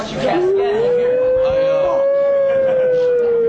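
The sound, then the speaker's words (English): A single long siren wail sweeps up quickly, then holds and slowly sinks, loud; it sounds like a human voice imitating a fire engine siren, for a fire squad being dispatched. “The sound of sirens is the fire department, the fire squad gets dispatched.”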